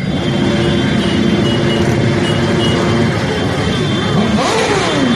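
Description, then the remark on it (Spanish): A dense, steady roar of many motorcycle engines from a Sunday protest motorcycle march of several hundred riders supporting Alcoa workers, with revving swells and a rising engine whine near the end, loud and unbroken for the whole stretch. “Eran el sonido de las motos.”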